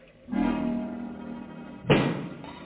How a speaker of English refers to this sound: What makes that knocking?